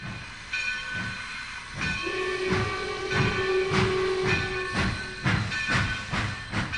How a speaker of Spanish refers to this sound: Locomotoras de vapor, diésel y eléctricas.